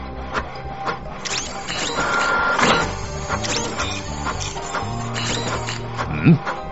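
A printer runs through a document, its carriage whirring and humming in steady mechanical tones with small clicks and rattles, ending with a short, sharp squeak.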